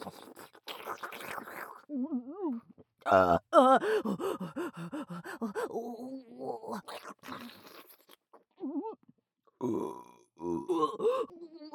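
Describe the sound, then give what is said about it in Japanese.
A loud series of burps mixed with strained vocal groans and gasps, coming in irregular bursts with short pauses between them. “しながらゲップ。”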